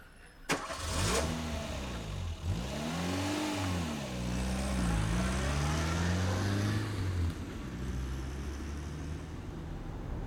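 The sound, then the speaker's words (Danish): A car engine starts and accelerates away along a country road from Haderslev toward the motorway, its pitch climbing and dropping through several gear changes before settling into a steady driving hum. The sound is fairly loud, with no talking. “Og vi er så kørt afsted ud af landevejen, væk fra Haderslev ud mod motorvejen.”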